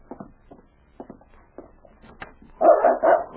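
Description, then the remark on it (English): A few faint, muffled dog barks sound from outside a door, then a louder dog answers with drawn-out barking and whining in the final second. “A dog barked outside the door, and King replied.”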